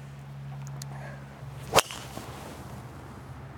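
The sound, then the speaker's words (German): A golf driver strikes the ball on a golf course with a single sharp, crisp crack that rings out loudly over a low, steady background hum; the ball lands in the right bunker. No one speaks. “Da ich hau mal drauf, ich komme da nicht hin.”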